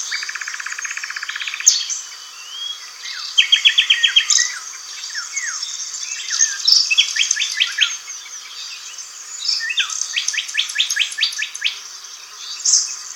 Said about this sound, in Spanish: Y silba también un descolorido ruiseñor.